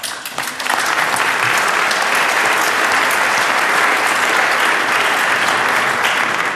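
A crowd bursts into steady, sustained applause, a dense wash of many hands clapping at an even loudness from start to finish, with no voices standing out.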